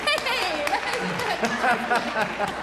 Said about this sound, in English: I mean, go back to serious campaign finance. Oh my gosh, reform. You're applauding him.